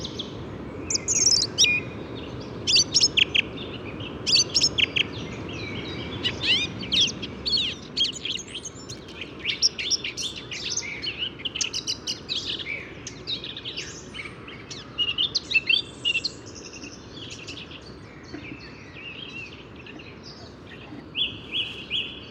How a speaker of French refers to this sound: Petite joute orale avec trois fauvettes à tête noire.